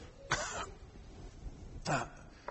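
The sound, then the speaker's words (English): A voice imitates Moses's nervous gulp: two short, throaty bursts about a second and a half apart, each fairly loud against a quiet background, with no talking. “Now, I don't know, but I think if I'd have been there, I might have heard Moses gulp.”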